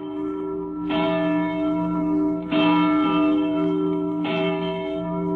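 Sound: church bell ringing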